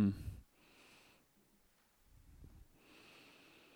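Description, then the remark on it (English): Soft, papery rustles as Bible pages are turned to 2 Peter chapter 1, several quiet swishes in a row with brief pauses between them, and no talking. “Oh, I love the sound of turning pages.”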